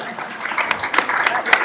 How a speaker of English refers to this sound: Here we go. All right. Good job. Round of applause.